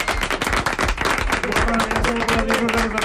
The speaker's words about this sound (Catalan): Un aplaudiment. Bravo!